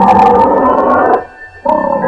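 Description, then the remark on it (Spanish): A lion roars loudly, a long rumbling growl that breaks off briefly and then surges back for a second burst. “De pronto se escuchó un rugido aterrador.”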